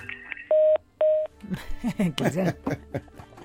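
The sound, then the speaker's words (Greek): Two loud, steady telephone line tones sound in quick succession, each about a quarter second long, followed by voices talking over a faint background. “Κάποιος χτυπάει τηλέφωνο.”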